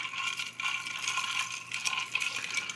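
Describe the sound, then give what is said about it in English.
A drink topped with ginger being stirred with a straw, giving a steady, bright rattling and clinking that churns on without pause for a few seconds. Nobody speaks. “Now, let me ask, are you going to sip with your straw from the bottom, or are you going to sip the ginger up top, or are you going to make, I'm going to stir mine. Yeah, stir it up.”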